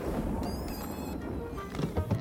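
A loud, rumbling thunder crash from a storm cloud over the Astral Observatory in Pflugerville, with an odd electronic, synthesized edge, its deep roar laced with high whining tones, giving it a mechanical, robotic quality. No one speaks.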